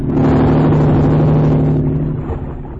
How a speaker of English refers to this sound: And that speedboat. It's going away. I guess whoever was driving it saw the boat from the lodge.